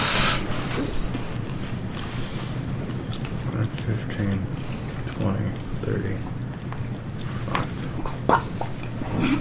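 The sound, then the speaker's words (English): A player imitates a hiss with a sharp, breathy burst of noise at the very start, followed by a steady, muddy background of murmuring voices and low rumble. “Hissing is a free action.”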